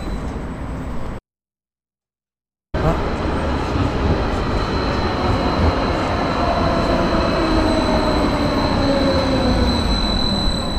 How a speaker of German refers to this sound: Okay, ich habe auch ganz viel Straßenbahngeräusche ehrlich gesagt aufgenommen. Live an der Domsheide war das. Von drinnen